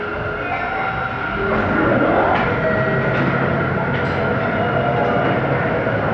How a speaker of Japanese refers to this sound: 仙台市若林区にある地下鉄荒井駅です。